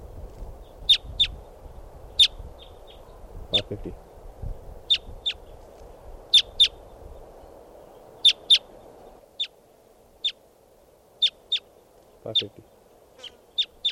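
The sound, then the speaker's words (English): A flock of about 10 or 12 type 2 crossbills, perched at the top of a tall Douglas fir by a camp, gives sharp, high kip calls, about twenty in irregular bursts over a steady low hum, while a man speaks briefly in between. “Our type 2s must be about 10 or 12 birds. They're perched up on the top of a tall Douglas fir, right here by the camp.”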